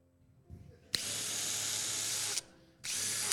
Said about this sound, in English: But if I had any hope of being able to get these screws into the wall, I needed to bring some extra power with me. I needed a drill.